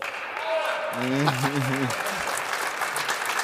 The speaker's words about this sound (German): Auch wenn das da hinten jetzt Applaus gibt